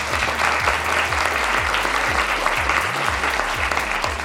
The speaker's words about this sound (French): Kif Taras est un podcast de Binge Audio enregistré aujourd'hui à Rennes au festival Dangereuse Lectrice par Jen, que nous remercions et que nous applaudissons.